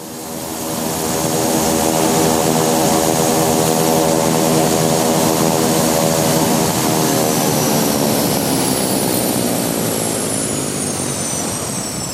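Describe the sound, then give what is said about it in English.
A propeller aircraft near an airport at AirVenture 2014 drones loudly and steadily overhead with a strong harmonic hum, its pitch slowly shifting as it passes by, with a faint high whine above. “is there an airport around here somewhere?”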